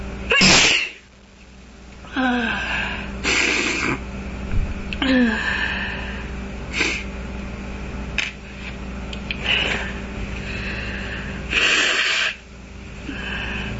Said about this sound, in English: really big sneezes. Not girly at all, I know.